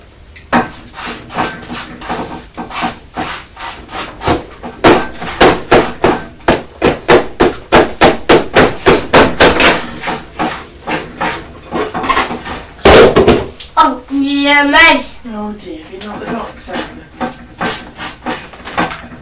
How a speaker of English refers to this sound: Knocking the box out.